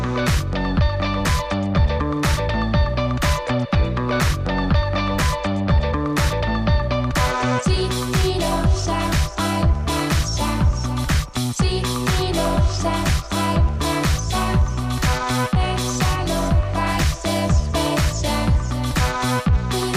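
A loud, dense pop track plays continuously with a steady driving beat, punchy drums and layered synths and vocals filling the mix, with no talking over it.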